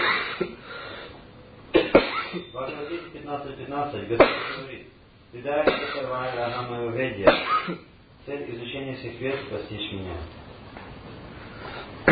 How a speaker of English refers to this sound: I cough because of lack of air, not because of too much air. So don't think you have to close the window.